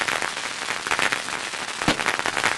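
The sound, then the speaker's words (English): A handheld firework, waved around by a man in a boat, fizzes loudly and steadily, its harsh hiss peppered with rapid crackles and one sharper pop near the end, with no voices. “waves the firework around like a phallus”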